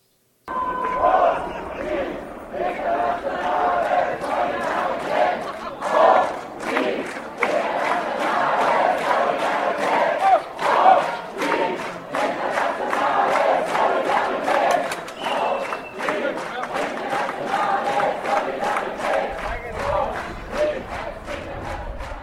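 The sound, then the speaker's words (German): A large crowd of May Day demonstrators with colourful placards and flags gathers in front of the railway station in Heilbronn, Germany, chanting and shouting together in a steady, loud roar of many voices, with rhythmic sharp bursts like clapping or drumming running throughout. “Ab 10.30 Uhr sammeln sich direkt vor dem Bahnhof immer mehr Menschen mit bunten Plakaten und Fahnen.”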